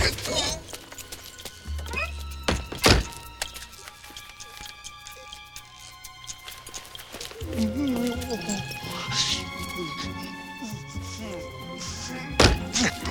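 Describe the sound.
A door bursts open and bangs shut as someone bursts out and leaves, with sharp thuds near the start and a loud knock again at the end, while voices talk over a busy background.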